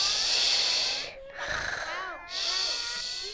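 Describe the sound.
Three long, breathy snoring snorts follow one another in a slow rhythm, loud, apparently a human voice imitating a dog snoring as it sleeps in its doghouse on a farm.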